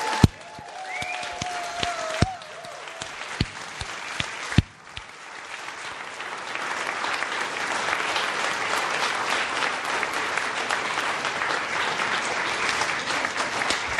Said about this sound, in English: Look around with love in your hearts, and let's all clap, cheer, stomp, welcome.